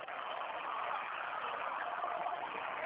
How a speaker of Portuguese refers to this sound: Tá, não tô ouvindo nada. Tem caminhão passando na rua aqui.